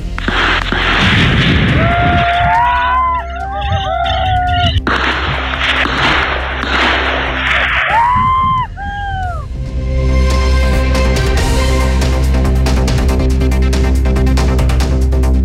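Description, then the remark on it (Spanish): Sharp gunshots crack out a few times during a raid by carabineros police in the rural area of Temucuicuy, against a dense, noisy outdoor background, mixed with whistling, chirping tones and faint voices, followed by a steady rumbling drone. “No hubo heridos, pero sí hubo incidentes respecto de enfrentamiento con disparos.”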